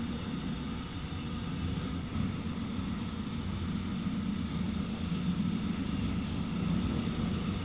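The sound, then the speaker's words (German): Steady rumble of a moving train arriving at Chemnitz Hauptbahnhof, where it terminates, heavy low-end roar with faint rattling on top, holding an even loudness throughout with no voices. “Sehr geehrte Fahrgäste, wir erreichen jetzt Chemnitz Hauptbahnhof. Dieser Zug endet dort.”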